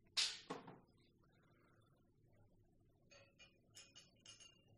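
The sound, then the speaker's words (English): Glasses of Prosecco clink sharply a couple of times in a toast, then a quick run of lighter, bright chinks follows over a quiet background hum. “Now, I guess it's not champagne, it's Prosecco, right?”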